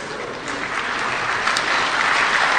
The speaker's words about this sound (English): That's not the end. I like the applause, but it's not the end.